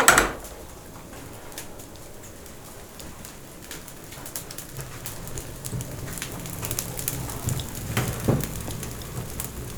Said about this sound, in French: Ces sons sont tout aussi chaleureux que la pluie qui nous a accueillis tout à l'heure.